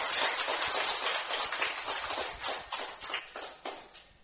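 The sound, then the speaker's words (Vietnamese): An audience at a Buddhist dharma gathering applauds to welcome the presiding Most Venerable monk, steadily for several seconds, a dense crackle of many hands clapping at once, with individual claps standing out as the ovation thins slightly toward the end. “Xin đại chúng cho một tràng pháo tay để chứng minh Hòa Thượng.”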